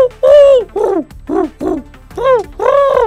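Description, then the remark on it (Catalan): A person's voice imitates the calls of birds found in the Llobregat Delta, producing six short, tonal hooting notes in a loose rhythm, fairly loud, with brief gaps between each call. “Imito els ocells que podríem trobar al Delta del Llobregat.”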